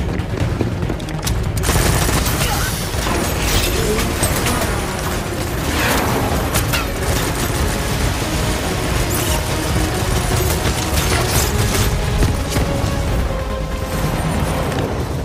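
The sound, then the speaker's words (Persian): Rapid bursts of gunfire crackle continuously and loudly, dense volleys overlapping with booming impacts and mechanical clatter, sustained throughout with no voices. “چطوره که تو حالت عادی نمیتونی اونطوری شلیک کنی؟”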